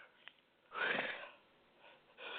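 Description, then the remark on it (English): A single sharp sneeze bursts out loudly over a phone line, followed by a short breathy tail and quiet background hiss. “I don't have a mute button on this phone, so occasionally you're going to hear sneezes.”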